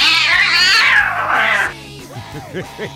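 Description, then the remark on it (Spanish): A cat lets out a long, loud, wavering yowl, then a few shorter chirpy meows follow, alone with no talking, over a faint low rhythmic thump. “Profesoras dice ser una gata y bufa a sus alumnos en clase.”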